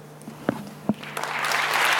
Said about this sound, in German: Der Beifall ist laut und lebendig, als Edward Snowden dann endlich auf der Großleinwand in einer der Leipziger Messehallen erscheint.